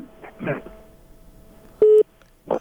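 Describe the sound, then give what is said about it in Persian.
A dropped phone line from a listener's call to a Radio Azadi call-in program gives off a loud, steady mid-pitched beep lasting about a fifth of a second, then a second beep begins, following brief faint talk and line hiss. “نه دیدی تلفن هم متاسفانه چه قطع شو.”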